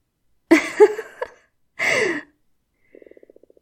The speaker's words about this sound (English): Fuck, my stomach is growling louder than all three of Cerberus's heads.